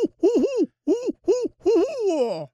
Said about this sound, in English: And the barred owl has a very distinctive call of its own. Yeah, can we hear that?